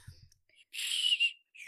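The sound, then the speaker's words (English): A breathy, airy toot on a candy whistle pop played as background music, one sustained blow lasting under a second, fairly loud, then a brief softer puff trailing after. “Would you like me to play background music on my Whistle Pop for you?”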